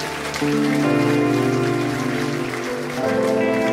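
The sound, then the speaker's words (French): An audience applauds Jesus the Redeemer in a dense, steady wash of clapping that holds at full volume for several seconds, with sustained musical tones ringing underneath and no voices. “Applaudir, je crois, le Rédempteur dans ce lieu, Jésus.”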